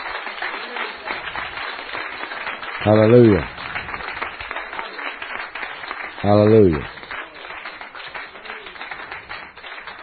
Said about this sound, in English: Hallelujah. Give the Lord a cheer.